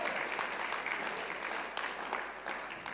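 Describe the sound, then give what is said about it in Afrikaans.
A crowd breaks into sustained applause for an athlete dressed like an Olympic athlete. It is a dense, steady clatter of many hands clapping at a fairly loud level for a few seconds, with no one speaking over it. “Kan ons 'n groot hande klap kry”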